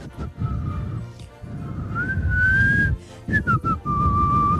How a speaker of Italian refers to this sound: Ma Sedanina proseguì fischiettando.